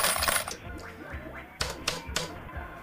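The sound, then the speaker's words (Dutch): A noisy metallic rattle, then two sharp clinks a moment apart as the first two coins drop into a machine, with brief ringing tones between them. Fairly loud, no talking. “Ja hoor, hier gaan de eerste 2 muntjes.”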